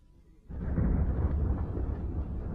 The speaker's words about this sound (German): Eine dichte Wolke lag auf dem Berg. Es blitzte und donnerte.